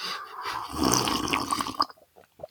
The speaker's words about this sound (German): Ich muss auch nochmal einen Schluck trinken.